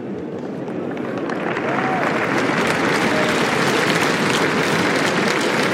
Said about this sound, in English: Félicitations encore une fois, Nastia. Merci d'applaudir, mesdames et messieurs. Anastasia Pavlyuchenkova, qualifiée pour les quarts de finale de Roland-Garros.